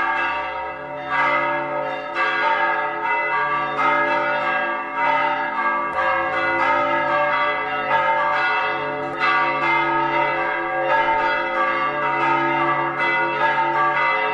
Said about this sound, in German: Und die CD beginnt und endet mit den Glocken von Maria Radner, auch damals aufgenommen. Ich weiß, Pater Ernst Harnisch hat mir damals noch geholfen und die Glocken betätigt auch und so.